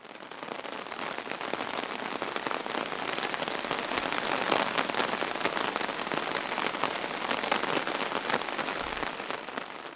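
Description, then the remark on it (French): Steady rain drums on an umbrella held overhead by a person walking to their car, a dense, continuous patter of countless drops with no pauses, loud and even throughout, with no voices. “Le temps de rejoindre ma voiture, je me suis couverte avec mon parapluie, et ça faisait ce bruit.”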